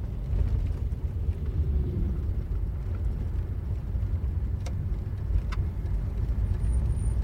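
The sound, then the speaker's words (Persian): A car's steady low engine rumble fills the scene as a taxi drives along at night, with a couple of brief sharp clicks or squeaks breaking through and no one speaking. “شب شده. رامی تو تاکسیه.”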